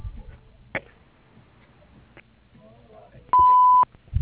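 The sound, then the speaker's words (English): A single steady electronic beep, like an answering machine tone, sounds loud and clear for about half a second after a few faint clicks and low background noise. “Wait for the beep.”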